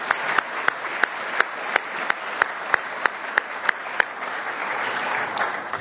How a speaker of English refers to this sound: So a big thank you to our plenary speakers and also to all those who presented material at concurrent sessions and also the chairs of those particular occasions. Let's all give them a round of applause.